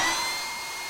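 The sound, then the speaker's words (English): Air pumps filling weather balloons with pure oxygen, running with a steady, breathy mechanical whir and hiss, thin high tones riding on top, holding constant and easing slightly in level with no voices. “So we're set to pure oxygen here, right? Yeah. And I could turn the pumps on.”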